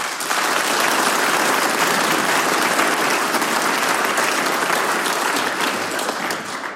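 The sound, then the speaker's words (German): A big round of applause from a crowd for the chairman of the Werkskapelle Veitsch band and his team after their event in Veitsch, steady and loud throughout, a dense wash of many hands clapping with no voices standing out. “Nochmal einen großen Applaus an dich und dein Team.”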